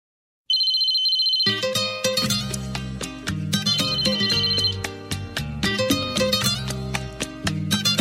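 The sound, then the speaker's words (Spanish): A shrill electronic telephone ring sounds alone for about a second, then a lively band in a traditional palenquera rhythm kicks in, with jubilant male voices, cheerful guitar and a trumpet section over energetic percussion, and the ringing tone returns briefly over the music. “Con teléfono, ritmo tradicional de palenquera, con voces masculinas jubilosas, guitarra alegre y sección de trompeta peculiar sobre un ritmo de percusión enérgico.”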